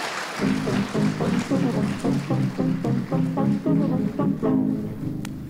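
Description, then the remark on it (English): An audience at an evening event claps for the panel guests in a steady, regular rhythm, each clap sharp and evenly spaced, over a sustained low tonal hum of voices, holding at a fairly loud level for several seconds. “Can I have a big round of applause for them and for yourselves for coming out tonight?”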